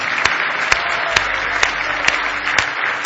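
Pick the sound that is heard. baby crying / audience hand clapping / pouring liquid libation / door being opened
audience hand clapping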